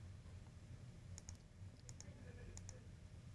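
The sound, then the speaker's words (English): A handful of light computer keyboard keystrokes, tapped in quick pairs with short pauses between, fairly quiet over a steady low hum, with no one speaking; someone typing into a software editor so the user interface preview updates. “So if I come in and start typing inside of here, we should be able to see our user interface, ideally, update over here.”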